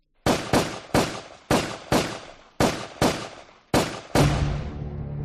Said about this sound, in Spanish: aprovechando que el semáforo estaba en rojo, sale de su coche, se acerca al del capitán, le grita, chinga tu madre, y disparó sobre él varias veces hasta vaciar el cargador.